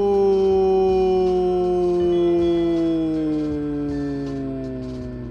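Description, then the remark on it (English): A single long, loud, drawn-out scream of "nooo" holds steady for about five seconds, its pitch sliding slowly downward like a howl and fading slightly at the end. “Or maybe it's more of an echoey scream.”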